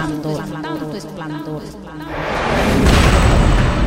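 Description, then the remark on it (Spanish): A voice gives way to a loud, sustained burst of rapid gunfire that keeps going without pause, dense and booming, filling the second half. “Pero un día mis sueños fueron interrumpidos por unos disparos que no cesaban.”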